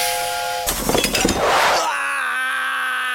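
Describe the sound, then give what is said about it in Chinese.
A little water is poured into a heated pot and hits it with a sudden clatter, then a loud burst of sizzling hiss as the water rapidly evaporates into steam, lasting about a second before fading, with steady musical tones playing underneath. “当烧热的锅里加上水，水会被快速蒸发成水蒸气。”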